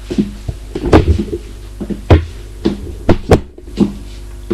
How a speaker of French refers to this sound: Ouvre la porte et éclaire.